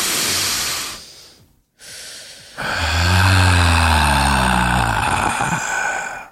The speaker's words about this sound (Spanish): Vamos a empezar este programa con un ejercicio de respiración, mi querida …. Vamos, respiremos.